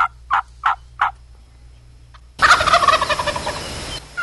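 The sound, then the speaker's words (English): A few short clucks from a gobbler sound out later in the morning, then a wild turkey gobbler bursts into a loud, rattling gobble that rolls on for nearly two seconds, strong, with no one talking. “That's John Boy lighting it up.”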